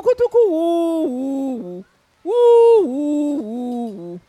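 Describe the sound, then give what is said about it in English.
A person's voice imitates a pigeon's cooing song in two loud phrases of sustained, stepping hoots, separated by a brief pause. “So Pigeon started to sing again.”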